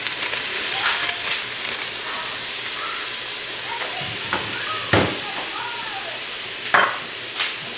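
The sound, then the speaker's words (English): Frozen bell pepper frying in a pan with two small sliced onions gives a steady, hissing sizzle with scattered crackles and a few sharp clinks of stirring, while a faint voice murmurs underneath. “The rest of my frozen bell pepper.”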